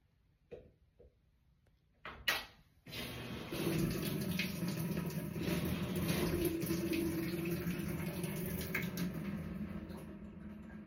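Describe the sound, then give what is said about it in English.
During a spin test diagnostic, a few sharp mechanical clicks from a washing machine door lock, then a louder clunk as the drum starts into a steady whirring spin with faint ticking underneath. “It's the spin and the agitate where I get that clicking noise.”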